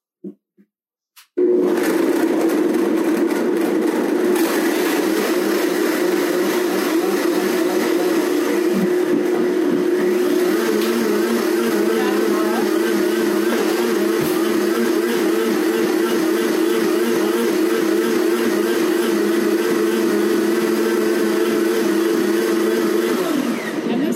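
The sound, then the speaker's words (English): A blender whirs loudly and steadily for over twenty seconds, its motor drone churning ingredients soaked overnight with a cup of room-temperature water, preceded by a couple of brief clicks as it starts up; no one speaks. “I'm going to dump that in here and turn the blender on where my lid is.”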